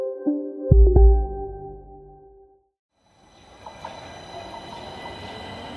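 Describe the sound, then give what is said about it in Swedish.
A metro train at Vårby gård subway station: a droning tonal whine with a heavy low thump, a short lull, then steady hissing rumble with high electric tones, no voices. “Vi befinner oss nu vid Vårby gård, tunnelbana och centrum.”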